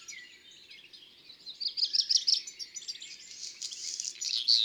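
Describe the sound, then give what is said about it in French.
A black redstart sings alone from the top of a roof near a village, under a large poplar, at 6 a.m. on 15 April as day breaks: a high, thin, repetitive tsiri-titi-ti phrase of quick twittering notes that runs into a dry, crackling, crumpled-paper-like rustle, staying fairly steady in loudness throughout. “Ça, c'est son chant typique et répétitif.”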